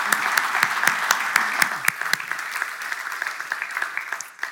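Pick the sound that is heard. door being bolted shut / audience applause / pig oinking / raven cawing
audience applause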